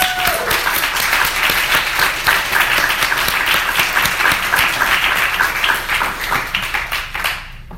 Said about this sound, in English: So a big hand of applause, really, to everyone.